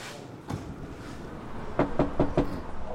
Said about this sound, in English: I knock on the door of the basement flat that's been raided.